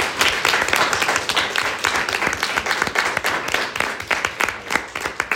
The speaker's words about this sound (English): That is all the public comment I got in, so let's give a round of applause for Senator Bardwaj and Senator Evans.